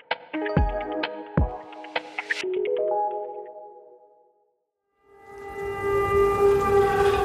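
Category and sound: signal or alarm, air raid warning siren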